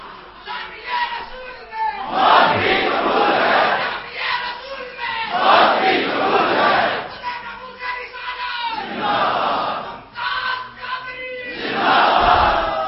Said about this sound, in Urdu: اور یار میں تو کچھ بھی نہیں کہتا, نعرے تو آپ مار رہے ہیں, نعرے تو آپ لگا رہے ہیں, میں تو حضور کی محبت کا درس دے رہا ہوں.